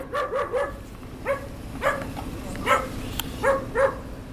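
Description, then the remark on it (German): A stray dog barks wildly and repeatedly in a war-ruined town, a rapid burst of three barks followed by scattered pairs of sharp barks, over a low background rumble. “Ein streunender Hund bellte wild, zu verängstigt, um näher zu kommen.”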